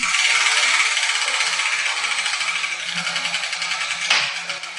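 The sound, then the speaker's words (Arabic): A wardrobe is shoved along, giving a loud, steady scraping rattle with quick repeated judders, then a single brief knock as a ball drops out near the end. No one speaks. “إذن سأذهب إلى الدولاب ومن دون تأخير كي أحركه.”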